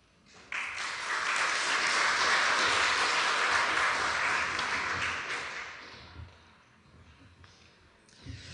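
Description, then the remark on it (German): An audience at a panel talk breaks into steady, dense applause for a speaker being introduced. It holds strong for several seconds, then thins out and fades into scattered claps with a few voices. “Und einen großen Applaus bitte für die Genossin”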